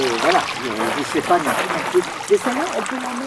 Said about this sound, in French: Avec toujours ses clapotis d'eau.